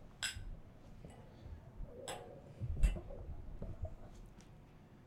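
glasses clinking

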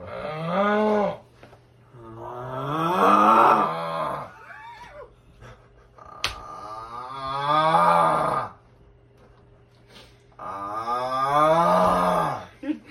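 loud snoring

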